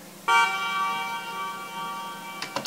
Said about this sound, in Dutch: Dit is de toeter. Heb ik er eerst een flinke galm opgezet.